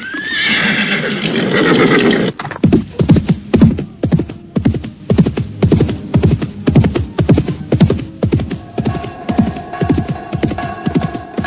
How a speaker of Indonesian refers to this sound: Seekor kuda hitam yang gagah meringki keras ketika laki-laki setengah tua itu melompat ke punggungnya.